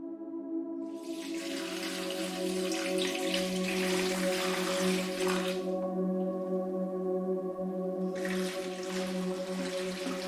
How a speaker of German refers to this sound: Langsam gehst du zu der ersten Pflanze. Du neigst die Kanne leicht und ein feiner Strahl klaren Wassers fließt heraus.